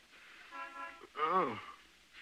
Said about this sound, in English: And will you please tell that Jerry to stop honking?